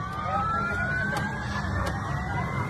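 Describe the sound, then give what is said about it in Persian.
An air raid siren in cities in Israel, waking residents from sleep, holds a steady wailing tone that slowly climbs in pitch over a low rumbling background, with a few faint clicks along the way. “همزمان در اسرائیل ساکنان برخی از شهرها با آژیر خطر حمله هوایی از خواب بیدار شدند و هشدارهای اضطراری از طریق تلفن همراه دریافت کردند.”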